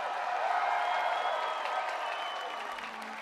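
A concert crowd at the end of a show applauds in a dense, continuous wash of clapping and cheering, loud and steady throughout, easing off slightly toward the end, as the performer shakes hands with the crowd at the front of the stage.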